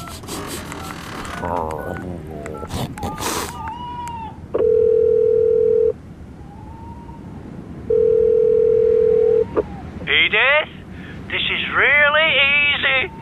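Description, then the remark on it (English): A loud, steady telephone dial tone sounds while a call is being placed, in two long, even bursts separated by a pause, with high, wavering cartoonish squeals and voices before and after. “I'll phone Edith so she knows we're okay.”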